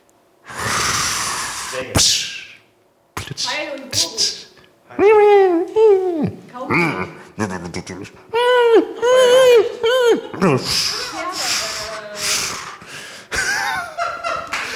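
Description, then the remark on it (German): In a timed guessing game, a person imitates a dolphin with a run of high, wavering squeals and chirps. These are broken by breathy hisses, gasps and clicky bursts, with no words spoken. “Delfin.”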